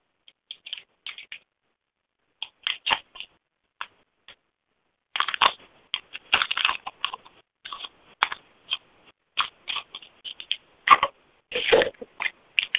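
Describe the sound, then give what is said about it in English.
Crinkly paper being handled, heard as irregular bursts of dry crackling and rustling, some clusters dense and loud, others sparse and brief, with short gaps of silence between. No voices. “I'm not hearing anything, although I'm doing something with crinkly paper.”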